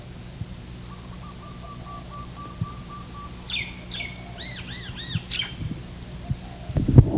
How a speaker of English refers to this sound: And the chips are coming from the red Kentucky cardinal.